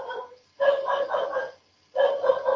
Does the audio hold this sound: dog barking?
yes